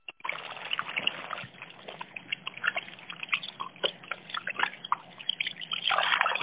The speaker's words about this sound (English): That's a shitter. No, it is a water feature. That is how the water falls. I think it's a toilet, but okay.